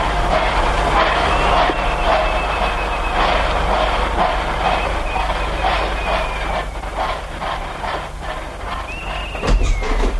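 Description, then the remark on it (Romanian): A shrill, trilling station whistle sounds over the steady rumble and clatter of a train pulling out, with a brief higher whistle blast near the end. “Ia că pornește și trilul.”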